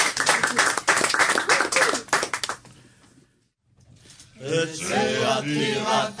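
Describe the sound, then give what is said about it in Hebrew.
An audience breaks into dense, steady applause for a few seconds for a cantor, then it fades to a brief silence before a single voice starts singing the liturgical piece Retzeh Atiratam in a drawn-out melody. “חברים, בוא ניתן לחיות כפיים, בבקשה פה.”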